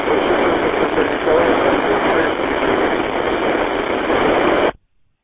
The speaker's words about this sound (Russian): О, что-то ваша станция вообще с помехами идет, оператор. Вообще, я не прочитал даже. Только одни шумы, одни помехи. Такое, как шабаршань, как будто что-то отходит там, где-то что-то.